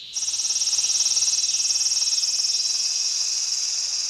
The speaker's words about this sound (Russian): Сегодня цикады такие громкие.